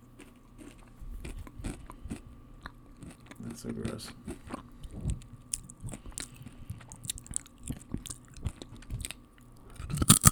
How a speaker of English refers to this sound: It's the worst thing to eat during a podcast. Anything that's crunchy. Especially like apples, chips.